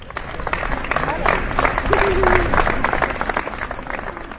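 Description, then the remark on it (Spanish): Sustained applause from a crowd ending a gathering in Plaza Mayor, Salamanca, called by the city council against gender violence, in memory of a woman murdered in Elche. Many hands clap in a dense, steady wash that swells slightly midway and holds throughout, with faint murmuring voices underneath. “El acto ha terminado con este aplauso en recuerdo a la mujer asesinada ayer en Elche.”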